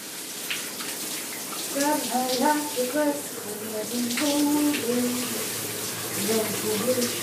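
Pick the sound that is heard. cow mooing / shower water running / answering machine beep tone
shower water running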